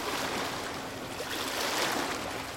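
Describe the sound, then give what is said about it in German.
Steady rushing of sea waves, a broad hissing wash that swells slightly near the end, with no voices present. “Denk zum Beispiel an Meeresrauschen.”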